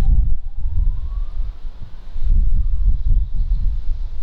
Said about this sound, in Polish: Teraz jest mniejszy wiatr. I ale nagranie jest całkiem niezłe.